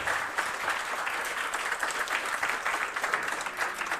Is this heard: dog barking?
no